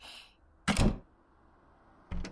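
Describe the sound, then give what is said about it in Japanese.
A front door shuts with a solid thud, followed a moment later by a second, sharper knock or latch sound. “一旦閉めます。”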